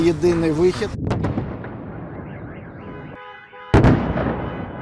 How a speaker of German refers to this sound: Am Wochenende waren wieder einmal Explosionen in Kiew und in vielen anderen Städten der Ukraine zu hören. Bei russischen Luftangriffen wurde auch die Energieinfrastruktur getroffen.